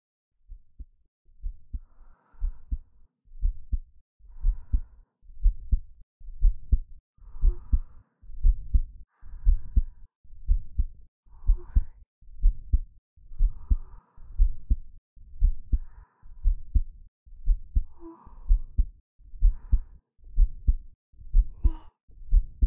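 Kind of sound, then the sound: human body sound, slow heartbeat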